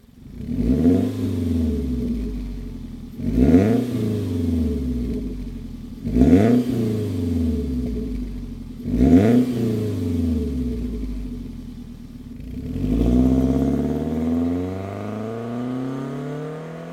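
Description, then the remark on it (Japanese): A Toyota Caldina (TA-AZT246W) with a 1AZ-FSE engine and an aftermarket Diossa GD373 muffler revs sharply four times in a steady rhythm, each burst rising and falling back to a rumbling idle, then a longer, deeper rev swells near the end, loud with a throaty exhaust tone. “カルディナ TAAZT246W、 ディオッサ GD373。”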